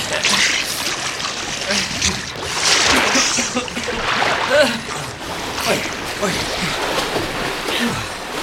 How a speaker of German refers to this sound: Wir müssen erstmal an Land. Am besten, wir schwimmen zur Vorderseite der Insel.